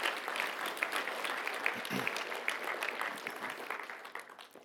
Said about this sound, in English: So let's go ahead and applaud the Lord for his work there too.